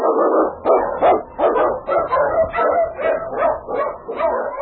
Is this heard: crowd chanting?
no